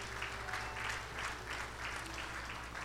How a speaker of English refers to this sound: Come on, somebody give the Lord a hand clap this morning.